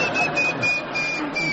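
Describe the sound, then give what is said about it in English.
A person mimics a chaffinch's song with a continuous run of rhythmic, high-pitched chirps and warbles, holding a steady loudness throughout without any words, given as a bird-identification question on the radio show My Music. “Yes, imitating a bird.”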